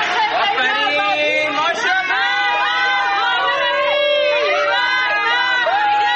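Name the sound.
protest crowd chanting slogans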